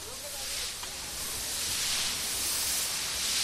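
A giant hose sprays clean water in a loud, steady hiss on a street in Llocnou de la Corona, filling the whole clip without pause, a dense rushing noise with no voices and no distinct strokes or rhythm.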